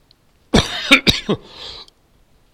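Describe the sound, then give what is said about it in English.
A loud burst of several rapid coughs in quick succession, harsh and throaty, trailing off into a raspy exhale before silence. “Yeah, talk about COVID and start coughing.”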